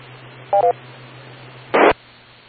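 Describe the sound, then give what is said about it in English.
Over a faint steady hum on a narrow radio channel, two quick dual-tone beeps sound, then a short loud burst of static as someone keys the radio repeater between transmissions and it drops. No one talks. “you know, somebody keeps keying the repeater between transmissions, so it's difficult to get Echo Link to key.”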